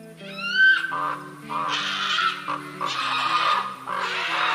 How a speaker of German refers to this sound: Schaut nur, da sind Raben. Scheinbar sollen Raben ja Unglück bringen.